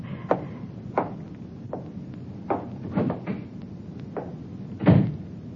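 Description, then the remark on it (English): A door is handled, with a string of irregular wooden clunks and knocks ending in a heavier thud as it shuts, over a low background hum and no talking. “Close the door.”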